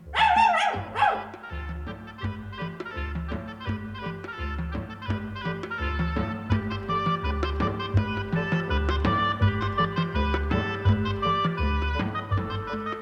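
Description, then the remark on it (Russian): A red dog gives a quick, loud burst of barking right at the start, then steady rhythmic music with a deep pulsing bass line takes over for the rest. “Ну-ка, рыжий пес, умчи нас скорей от этих мест.”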